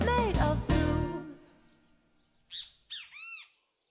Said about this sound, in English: Had to let the birds have their say.